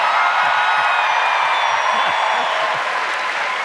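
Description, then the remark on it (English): A crowd lets out a loud rebel yell, a dense roar of high whoops and shouts mixed with clapping that holds steady for several seconds without a break. “That, I presume, was the rebel yell I've heard so much about.”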